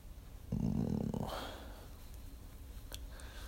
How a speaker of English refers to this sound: I want to feel you get wet when I growl into your ear.